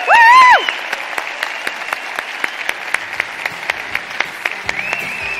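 An audience claps steadily for several seconds, a dense wash of applause with individual sharper claps popping out, opened by a brief loud, wavering cheer.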